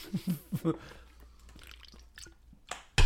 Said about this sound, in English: We raise our glasses in the air, quick cheers, and then I'll let you dive right on in. Cheers, man. Malice in the chalice. Drinking, breathing.